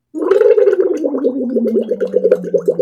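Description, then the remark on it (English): Bubbles blown through a big Stanley smoothie-size straw into a cup of water in a 40-ounce Stanley make a steady, loud burbling, with rapid rippling pulses whose low pitch slowly sinks over about three seconds. No voices are heard. “And so I can just take the lid off and just blow bubbles into my cup of water with the big kind of Stanley smoothie size straw that comes with it.”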